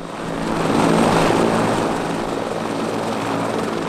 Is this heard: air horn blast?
no